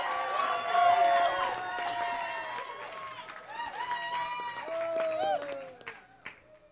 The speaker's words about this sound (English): First of all, everybody give a huge round of applause.